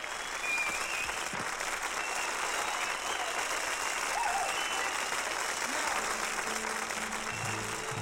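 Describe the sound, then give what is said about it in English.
Sustained audience applause at a show, a dense steady wash of many hands clapping at an even level for the whole stretch, with a faint murmur of voices mixed in toward the end. “more applause.”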